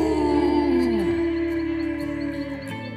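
A man howls once as he suddenly stirs and comes to his senses: a single loud, long wavering tone that slides down in pitch partway through, then holds steady before breaking off just before the end.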